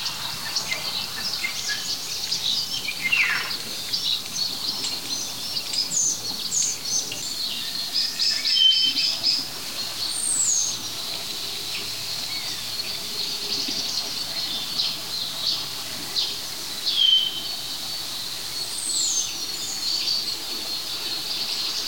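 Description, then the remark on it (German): A common starling sings a varied, mimicking song of scattered whistles, chirps and sliding calls over a steady, hissing high-pitched insect-like background. “Wenn all das aus einem Baum kommt, ist es höchstwahrscheinlich der Star der Vogelwelt.”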